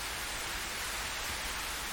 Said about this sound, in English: Hey, the rain's stopping. Jeez, it feels like it's been ages since it started.